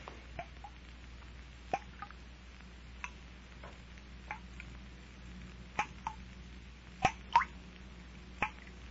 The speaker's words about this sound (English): No. The place is empty. Not a sound but the dripping water.